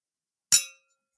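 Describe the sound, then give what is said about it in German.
A single bright clink of drinking cups touching in a toast, sharp, with a short ringing tone that fades within a fraction of a second and no other sound around it. “Heute habe ich mir auch was zum Anstoßen hier hingelegt, damit das nicht wieder wie letztes Mal so pum.”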